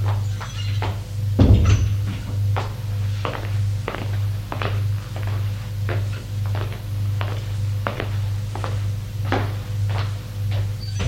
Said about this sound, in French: Il me mène à droite. Il ouvre une porte vitrée.